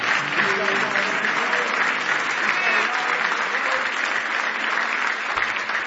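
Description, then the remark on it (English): A large audience claps steadily and loudly in praise of the Lord, a dense wash of applause lasting several seconds, with faint voices and cheers mixed underneath. “Give the Lord one more hand clap of praise if you love him tonight.”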